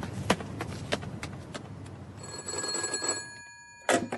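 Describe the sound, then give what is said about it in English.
A series of sharp taps gives way to a telephone bell ringing in a steady, shimmering burst for about a second, followed by a brief clatter like a receiver being lifted. “We should telephone Tuesday and tell him what's going on.”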